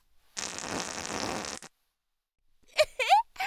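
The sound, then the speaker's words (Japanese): A long, loud, sputtering fart let out while sitting on someone, lasting over a second, followed by a brief pause and then a short burst of voice. “尻に敷いて遠慮なく屁こいた後のブリグソを漏らし。”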